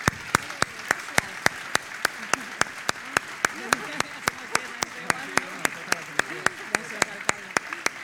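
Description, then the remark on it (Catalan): Sustained audience applause in Sitges thanking the commission organising the Festa Major de Sant Bartomeu i Santa Tecla, lasting the whole stretch, with one sharp, steady rhythmic clap cutting through the dense crowd clapping and faint voices murmuring underneath. “Jo crec que el que ens pertoca en aquest moment és dedicar un agraïment en forma d'aplaudiment a la comissió per aquesta gran festa major de Sant Bartomeu i Santa Tecla que ens estan preparant.”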